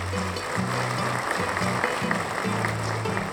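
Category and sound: sound effect, crowd applause sound effect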